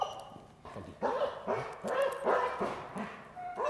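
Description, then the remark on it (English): A police dog barks and growls in rapid, agitated bursts as it bites a person's arm sleeve during an arrest demonstration, about five harsh barks in quick succession, loud, with no one speaking. “That's a heck of a hit when it happens.”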